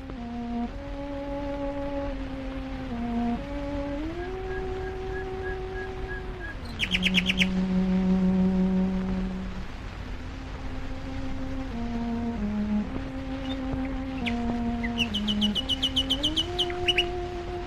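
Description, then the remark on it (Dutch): Bursts of bright, rapid bird chirping rise twice over a steady, low humming drone that shifts pitch in slow steps; no one speaks. “Een soort vogelspodcast. Nou, ja, misschien kunnen we wel even een stukje laten luisteren.”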